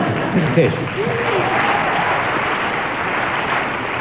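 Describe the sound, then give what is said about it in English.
A studio audience applauds steadily and fairly loudly for several seconds for a speaker's contribution on a subject, a dense wash of clapping with a few faint voices calling out underneath early on. “A well-deserved round of applause for your contribution on that impossible subject.”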